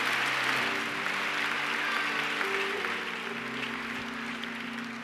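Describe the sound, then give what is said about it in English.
An audience at a church service claps hands in a dense, steady wash of applause lasting the whole stretch, with a low sustained tone or hum running underneath and no clear talking. “Let's clap our hands.”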